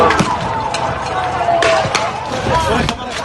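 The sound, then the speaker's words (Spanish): Tear gas canisters being fired by Moroccan gendarmes at migrants attempting a mass crossing of the border on 24 June: about five sharp, hollow bangs at irregular intervals, cutting through a constant roar of shouting voices and crowd noise. “Esto que estás escuchando son los disparos de gases lacrimógenos por parte de los gendarmes marroquíes a los migrantes que intentaron cruzar el pasado 24 de junio, en ese salto masivo que se produjo con un resultado trágico además.”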